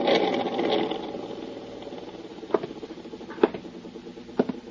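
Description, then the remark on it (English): An overhead fan, switched on in a stuffy room, whirs steadily with a soft, rhythmic fluttering rattle, louder at first and then settling, while three sharp clicks tick out at roughly one-second intervals near the end. “I'll turn on the overhead fan.”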